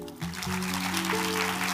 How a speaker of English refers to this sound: Come on, clap.